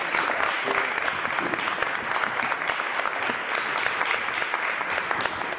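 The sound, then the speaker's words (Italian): An audience at the Cortona city council assembly applauds steadily for several seconds to welcome Archbishop Riccardo Fontana, dense clapping at an even, sustained level with no voices standing out. “In particolare un caloroso benvenuto al nostro arcivescovo Riccardo Fontana a Cortona, lo accoglierei subito, magari con un applauso.”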